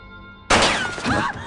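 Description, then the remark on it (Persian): After a faint hum, a gunshot blasts in suddenly and loudly, followed by a dense, noisy roar that lingers with ringing tones rather than fading quickly; the shot misses its target. “نزدی که گفته بودی تیر اندازیت خوبه.”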